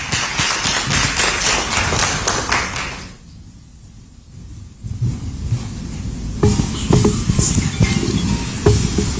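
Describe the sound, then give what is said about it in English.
An audience at an awards evening bursts into loud, dense applause as the CEO of Ayuda Hub Limited, maker of the Ayuda app, is introduced, a crackling wash of many hands clapping that dips briefly in the middle before swelling back up and continuing to the end. “Ladies and gentlemen, please help me with a big round of applause, and they have been one of the pillars supporting us and making this possible.”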